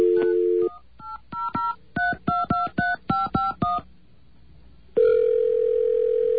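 A steady dial tone cuts off, then about eleven quick touch-tone beeps dial a phone number in an even rhythm, followed by a pause and a loud, sustained tone that returns.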